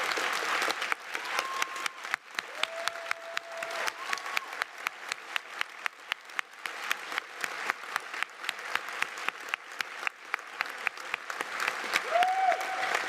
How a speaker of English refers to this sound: Now you applaud these people.